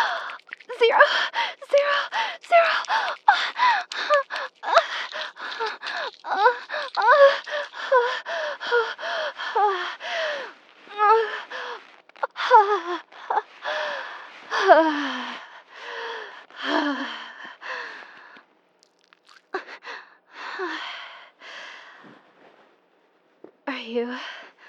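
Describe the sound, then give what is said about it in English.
Heavy, rapid breathing with sharp gasps and breathy vocal sounds, loud, coming in quick uneven bursts that slow and thin out toward the end. “You're breathing pretty hard.”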